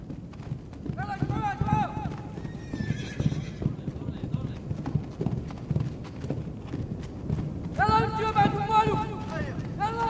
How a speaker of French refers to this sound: C'est par le son qu'on sent arriver le danger hein, dans les pas des sabots des chevaux, Oliver Lax.